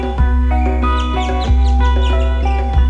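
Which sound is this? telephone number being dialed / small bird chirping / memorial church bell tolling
small bird chirping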